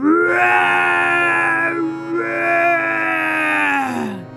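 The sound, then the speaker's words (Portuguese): A human voice imitates a lion's roar with two long, loud, drawn-out groaning bellows. The pitch slides down at the end of each bellow, and no one speaks. “O ratinho, que havia prometido ajudar o leão, escutou o seu rugido, seguiu correndo em sua direção”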